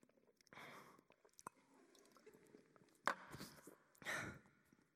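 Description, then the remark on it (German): Someone drinks a glass of water: small wet gulps and swallowing clicks, broken by a few loud, breathy exhales, with no talking. “Hingegen, wenn ich das Glas Wasser trinke, ohne Sehnsucht”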